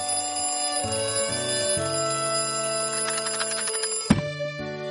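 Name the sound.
alarm clock ringing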